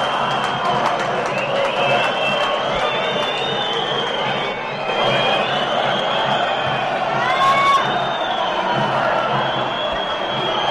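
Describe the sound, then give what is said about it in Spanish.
A dense football stadium crowd roars steadily throughout a match involving Villarreal B, its chanting mostly swamped by loud, shrill whistling that rises and sweeps in long, high-pitched tones. “No es masivo, pero está no, claro oye, que... lo están tapando los pitidos.”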